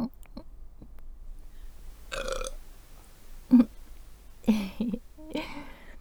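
burp

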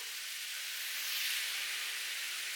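shower water running

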